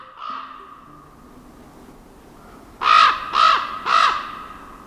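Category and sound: bird, common raven calling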